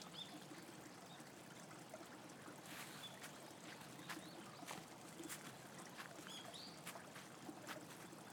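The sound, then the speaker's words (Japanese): A small river flows steadily on a chilly day with a continuous, soft babbling rush of water and occasional brief splashy trickles, fairly quiet and unbroken, with no voices. “暑い時ならこの川の音が涼しく聞こえるんだろうけど、今はちょっと寒くなっちゃうね。”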